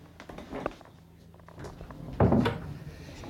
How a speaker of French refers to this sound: Oui, allez-y, elle est ouverte, la porte. Merci.